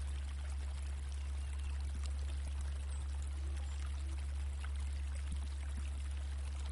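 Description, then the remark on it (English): Steady, even rush of a gently flowing forest brook running continuously over stones, with a low constant hum beneath it and no voices. “The gentle flow of the brook.”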